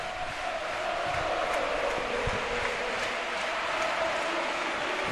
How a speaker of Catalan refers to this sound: Aplaudiments i càntics en la grada